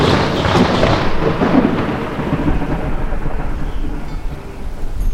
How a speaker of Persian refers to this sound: زمان زیادی نگذشت که هوا تیره و تار شد و باد سهمگین اومد. آسمون رعد و برق وحشتناکی زد.